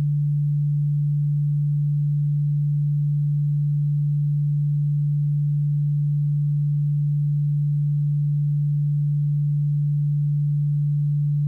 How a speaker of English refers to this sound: Now, in your left ear, I am going to play a frequency of 146 Hz.